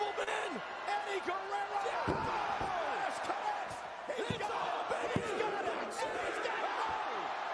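A wrestling arena crowd erupts in a sustained, loud roar of cheers and rising shouts, punctuated by a few sharp thuds like bodies hitting the mat, reacting to a near fall in the match.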